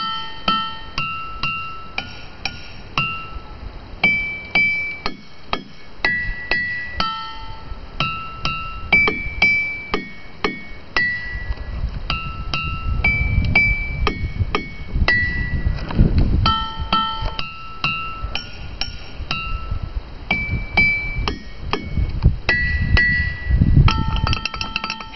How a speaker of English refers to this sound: Check out this clip of a visitor at Ringing Rocks Park in Pennsylvania using six singing stones, each with its own distinctive note, to play a familiar melody.